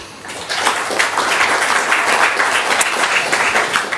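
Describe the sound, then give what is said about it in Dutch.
A crowd in a municipal council chamber bursts into sustained applause for themselves, many hands clapping in a dense, steady wash of sound that stays loud and even throughout. “Applaus voor jezelf.”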